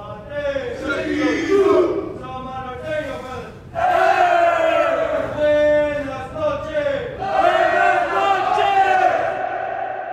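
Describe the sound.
Samoan prisoners shout and bellow in unison in the nightly shutdown ritual around 10 o'clock in prison reception, a loud, sustained collective chant that rises in three long surging waves with a brief dip between the first and second.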